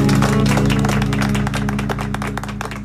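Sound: applause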